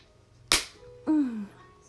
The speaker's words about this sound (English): You pull my skirt up and you give my ass a nice slap.